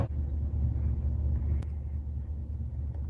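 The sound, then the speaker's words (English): A steady low rumble fills the space, like an idling vehicle heard from inside the cabin of a parked police patrol car, with a brief faint click partway through and no voices. “We are sitting in a patrol car.”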